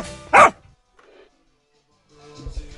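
A single sharp dog bark rings out loud, followed by a lull and then faint, murky background noise.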